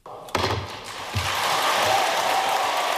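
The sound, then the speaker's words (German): A gavel bangs sharply twice at 3 a.m. at the climate conference in Cancun, Mexico, as conference president Patricia Espinosa declares the draft adopted, and a dense wave of relieved clapping quickly swells up and keeps going in steady, sustained applause. “Ein Hammerschlag um 3 Uhr nachts, danach erleichterter Applaus.”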